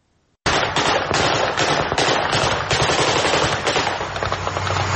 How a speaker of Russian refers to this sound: Три тысячи мирных жителей села Паник в Ширакской области Армении пришли в ужас от выстрелов и взрывов. Они решили, что в селе начались реальные боевые действия.